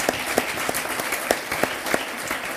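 Steady applause from the audience of a live show, dense clapping filling the space with a few sharper claps popping out at irregular intervals, continuing without any voices.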